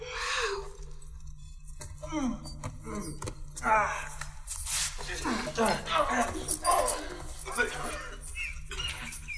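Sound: dog barking and whimpering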